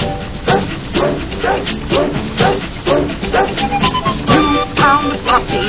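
Several puppies bark and yip in quick, overlapping bursts, loud, with high-pitched yaps piling on each other throughout and barely a pause between them.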